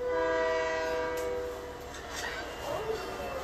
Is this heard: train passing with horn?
yes